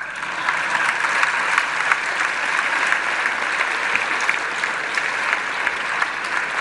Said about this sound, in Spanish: Pueden aplaudir eso también.